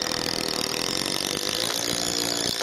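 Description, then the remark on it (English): A cordless power drill drives a screw through one end of a heavy board into an upright corral post while an old corral is restored, its motor whining loud in one steady, unbroken burst before cutting off abruptly at the end. “Rancher and retired rodeo man Johnny Holloway uses a cordless power drill to screw one end of a heavy board to an upright corral post.”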